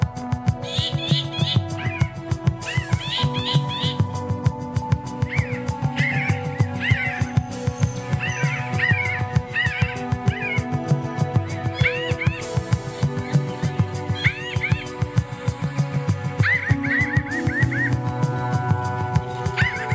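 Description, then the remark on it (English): A flock of pinyon jays chattering, with many nasal, mewing calls overlapping in quick bursts throughout, over a steady low background hum. “Hundreds and even thousands of these charming and chattering birds once kept people company in such wild places.”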